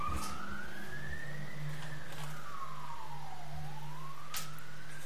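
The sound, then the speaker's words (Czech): The wailing siren of a fire engine, the third one to pass, sweeps slowly up and down in pitch over a low rumble of traffic, fairly loud, with no one talking. “No, třetí hasiči. Není to dobrý.”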